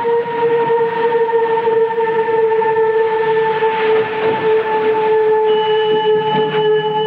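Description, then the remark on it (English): An ambulance siren sounds loud as an ambulance arrives, holding a steady, unwavering tone for several seconds over a rumbling background, with no voices. “An ambulance arrives.”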